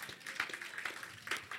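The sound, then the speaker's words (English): A crowd claps for the Lord Jesus in a brief, steady patter of many hands, fairly soft, with no voices standing out. “Clap for the Lord Jesus.”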